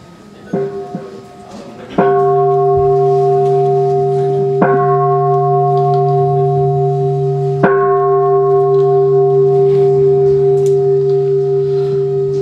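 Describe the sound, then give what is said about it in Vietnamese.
A deep ceremonial bell is struck three times to open a Buddhist ceremony at a Youth Center in Washington State, at slow, even intervals, each strike ringing out loudly with a rich, sustained hum that blends into the next, and a faint murmur of voices underneath. “Thầy sẽ điều hành buổi lễ cho ba tiếng chuông.”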